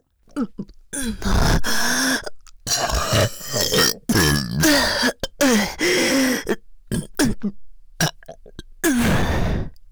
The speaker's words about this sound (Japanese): ゲップ止まんね。おっさんのくせえチンカスのせいで下品なゲップ垂れ放題。